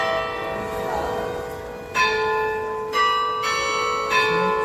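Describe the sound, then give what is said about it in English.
Clear, ringing bell chimes from a striking clock decorated with jousting horses and men, several struck in steady succession about a second apart, each with a bright attack and long resonant decay, no talking. “The chiming clock?”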